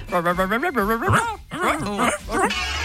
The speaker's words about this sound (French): Moi, j'aimerais bien avoir la conversation des chiens du quartier.